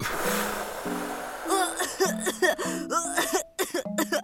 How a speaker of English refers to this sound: With a fake cough